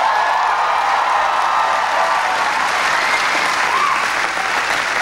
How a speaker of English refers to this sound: Here at NC State, you know something about innovation. You've got one of the largest undergraduate engineering programs in the country. That's worth cheering for.